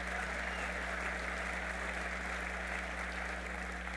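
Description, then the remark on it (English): An audience claps steadily, a dense, even patter of many hands at moderate volume that neither builds nor fades, with a low electrical hum underneath and no one speaking. “I see some are clapping more enthusiastically than others.”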